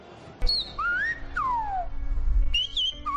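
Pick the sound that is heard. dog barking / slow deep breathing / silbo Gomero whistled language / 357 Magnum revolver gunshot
silbo Gomero whistled language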